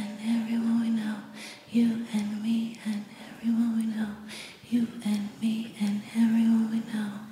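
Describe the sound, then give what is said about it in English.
A crowd softly whisper-sings a repeated chorus in unison, breathy and hushed, with a steady melodic hum and low tones carrying beneath the rhythmic phrases. “Stop clapping, just whisper it.”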